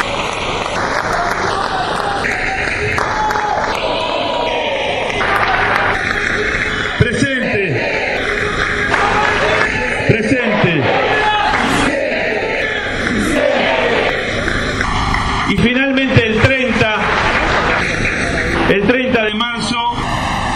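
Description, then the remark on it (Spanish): A large crowd applauds and cheers for the 30,000 disappeared comrades for about twenty seconds, steady dense clapping with shouts and whistles rising over it in bursts, loud throughout. “de nuestros 30.000 compañeros desaparecidos, por los cuales también pido un aplauso, porque eso sí, dieron la vida por la patria, por los más humildes, como la estamos dando nosotros.”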